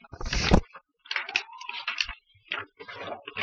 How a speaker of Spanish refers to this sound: Bueno, estos ruiditos que ustedes están escuchando después del tema en este lapso es las hojas. Tenemos un micrófono bastante sensible.